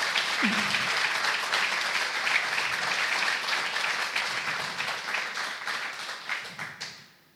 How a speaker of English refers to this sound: And I just really would like to just give them a round of applause, please.